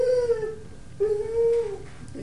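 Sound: dog barking and howling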